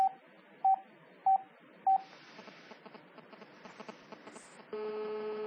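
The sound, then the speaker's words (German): Four short, evenly spaced telephone keypad tones dial a number to call a mobile phone from another telephone, then a brief stretch of noisy line hiss gives way to a steady, sustained ringback or line tone at the end. “Ich rufe jetzt das Handy von einem anderen Telefon an.”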